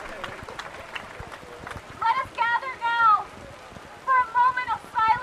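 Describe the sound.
Steady, dense patter of heavy early evening rain fills the whole scene outdoors in Brooklyn, New York City, while raised voices of hundreds gathered to protest against police brutality shout and chant over it in the second half.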